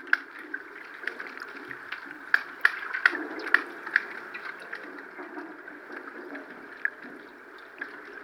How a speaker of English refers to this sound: So that's what we recorded. It was beneath the water with the hydrophone.